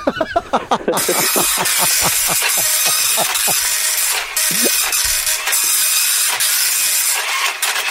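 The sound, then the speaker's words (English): A slow printer works through a page: a quick run of rhythmic mechanical clicks and whirs gives way to a steady, loud hissing grind that continues with no one speaking. “Just printing it out now. It's a very slow printer, so here we go.”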